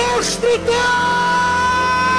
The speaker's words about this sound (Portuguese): Solta o teu grito